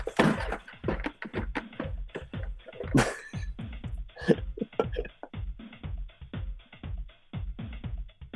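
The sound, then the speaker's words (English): A long fit of rapid, choking coughs after a sip of beer went down the wrong way during a monologue, sputtering in quick repeated bursts, with a couple of harder, louder hacks partway through and no speech. “I learned today that I shouldn't try to take a sip of beer when I'm trying to do a monologue because it goes down the wrong hole.”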